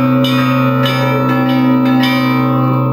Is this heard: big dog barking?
no